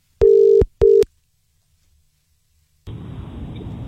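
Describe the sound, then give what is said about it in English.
A phone line on a Capital Extra radio call to a listener rings out with one loud, steady double-pulse ringback tone, then falls silent until the call connects with a burst of muffled, hissy telephone-line noise. “Let's get on the phone right now.”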